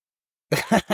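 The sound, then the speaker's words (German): After a moment of silence, adhesive tape is shaken and crinkled in a few quick, rustling bursts that imitate the crackle of a campfire. “Das ist Klebeband. Einfach mit Klebeband rumgewackelt.”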